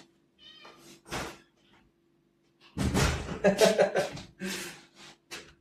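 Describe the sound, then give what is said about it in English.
A domestic cat meows several times, starting with a few softer calls and then breaking into a louder, more insistent run of drawn-out, wailing meows. “Let me just get rid of the cat.”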